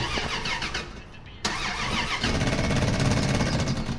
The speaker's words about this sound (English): Now, can you just turn the engine over, please?